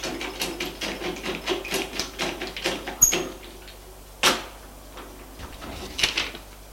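The closed shutters of a bedroom window are worked open: a quick run of rattling, clattering clicks, then a sharp bang and a second thump, with a few softer knocks near the end. No one speaks.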